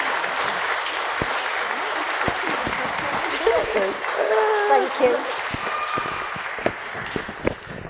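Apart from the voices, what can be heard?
audience applause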